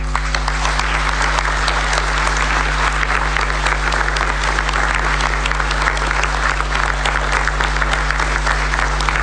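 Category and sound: crowd, crowd applause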